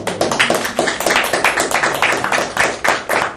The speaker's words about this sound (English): Once again, I'm going to just applaud our staff.